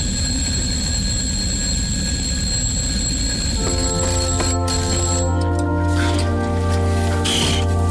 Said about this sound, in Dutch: Jongen, ik schrik me een ongeluk. Het was een wekker.